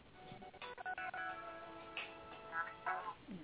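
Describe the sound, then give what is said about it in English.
A mobile phone rings with a melodic ringtone: sustained, shifting musical tones with brighter chiming notes toward the end, fairly quiet and with no one talking over it. “Sorry, my phone was ringing. I needed to turn it off.”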